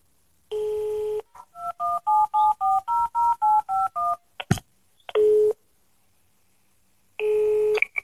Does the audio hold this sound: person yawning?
no